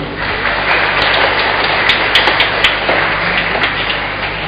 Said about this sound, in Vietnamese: Chúng ta chúc mừng nhau một tràng vỗ tay thật lớn.